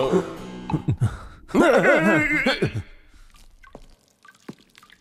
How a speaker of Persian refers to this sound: اولش که اون صداها بعدم نشتی آب، امیدوارم آب فاضلاب نباشه.